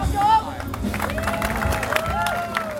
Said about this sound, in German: Das Publikum johlt und klatscht. Rund 100 Zuschauer sind an diesem Abend gekommen, um die Kämpfe zu sehen.